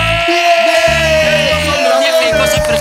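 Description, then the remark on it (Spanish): A loud, drawn-out shout held for nearly three seconds, its pitch sliding slightly downward, with a rhythmic musical backing underneath throughout. “Hemos hecho ronda, pego grito y seguimos.”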